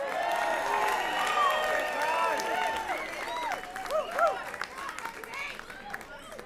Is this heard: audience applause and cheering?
yes